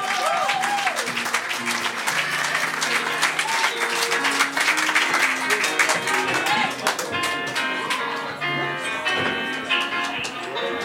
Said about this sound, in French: Chaudement d'applaudissement et un maximum de bruit